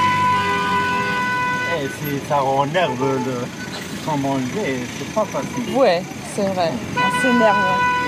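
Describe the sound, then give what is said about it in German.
Car horns toot repeatedly in congested traffic in Algiers, Algeria, heard during a taxi ride from Boumediene airport to the Kasbah on 10 May 2019, layered over a steady engine rumble, with overlapping voices talking throughout. “Der Verkehr staut sich. Ein ansteckendes Hubkonzert begleitet die Fahrt.”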